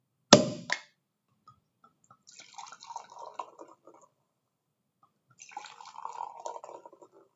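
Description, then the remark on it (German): A sharp cork pop rings out as a bottle of Sekt is opened, then the sparkling wine is poured in two separate fizzing, bubbling streams, fairly quiet, with no talking. “Vielleicht machen wir für heute Schluss und ich mache zur Feier des Tages vielleicht einen Sekt auf.”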